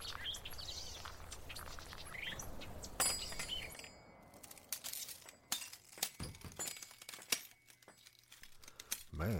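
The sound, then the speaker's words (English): Broken glass crunches and crackles in irregular bursts, sharp gritty snaps and tinkles scattered across several seconds, like shards being stepped on or shifted. “Broken glass, but it don't look like a whole lot's been taken.”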